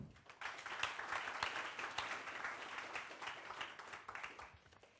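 An audience at an e-learning conference applauds steadily for the full five seconds, a dense wash of many hands clapping at even loudness, tapering only slightly toward the end.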